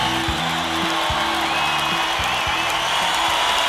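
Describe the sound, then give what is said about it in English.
A large crowd roars and cheers continuously, a dense wash of voices and clapping with low rumbling tones pulsing underneath, steady and loud throughout. “And the crowd goes wild.”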